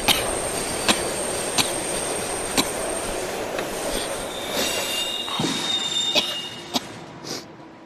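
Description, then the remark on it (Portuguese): A metro train rumbles along the rails with sharp rhythmic clacks over the joints, and high, thin wheel squeals rise and sustain toward the end. Loud, with no voices. “Había que coller o metro e o autobús”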